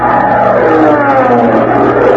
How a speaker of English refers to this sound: Oh, boy! Look at all the bees in here! You can hardly count them all!